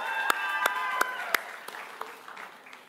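An audience claps in a steady wash of applause, with a few sharp, evenly spaced claps standing out at first and a faint ringing tone underneath, then gradually thinning and fading.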